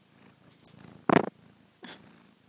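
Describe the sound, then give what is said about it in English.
A sleepy new kitty cat purring steadily, with a few short, breathy sniffs and snuffles right against the microphone, one loud burst in the middle and another softer one near the end. “Sniff at the microphone.”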